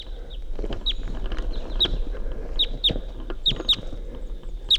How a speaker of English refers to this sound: I hear a wild bird in the distance. It's 8:13 a.m. Also song phrases.